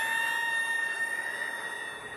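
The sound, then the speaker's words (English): A chill wind whistles through the shamrocks, a sustained high-pitched tone with fainter lower overtones riding over a constant airy hiss, holding even for a couple of seconds with no voices. “I don't know if you heard that, Diona, but it sounded to me like a chill wind whistling through the shamrocks.”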